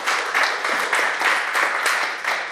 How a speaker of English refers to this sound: Somebody clap your hands and give him glory right there.